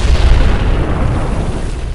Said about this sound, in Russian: Под нашим окном грохнул второй взрыв. Стекла задрожали, но выдержали.